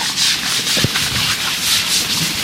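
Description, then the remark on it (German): A keeper vigorously scrubs the thick skin of Lakshmi, an elephant at an elephant retirement home, during her daily shower: a loud, steady rasping hiss pulsing in quick repeated strokes, with a brief low thump partway through and no voices. “muss sich beim Schrubben von Lakshmi kräftig ins Zeug legen.”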